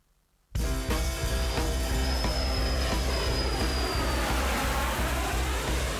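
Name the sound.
airplane engine flying overhead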